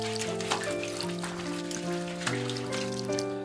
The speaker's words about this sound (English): I'll have a pot wash. What on earth is that? It's when you give each body part its own little shower using a teapot.